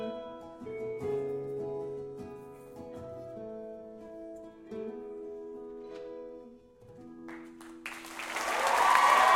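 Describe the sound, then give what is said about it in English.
A sustained, melodic live song by a band winds down at the end of their set, then a burst of crowd applause erupts and swells loudly over the final couple of seconds, dense clapping filling the space. “So don't clap loud. You won't get us back.”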